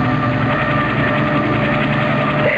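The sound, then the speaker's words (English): A steady, loud mechanical drone with a faint rhythmic chop of a helicopter engine and rotors as the helicopter comes in from the east, continuous throughout with no voices. “What's that noise, Father? The helicopter.”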